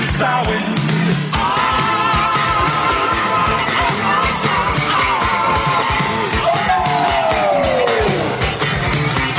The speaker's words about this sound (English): Here come that crazy scream.